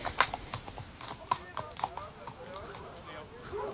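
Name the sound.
horse hooves clip-clopping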